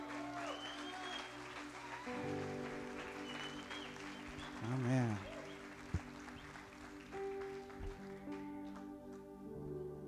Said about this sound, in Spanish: Pues el día de hoy, un pastor de aquí, de Amor y Verdad, alguien que ama esta iglesia, le pedí que trajera la palabra de Dios y sé que vas a ser muy bendecido, así porque le damos un aplauso al pastor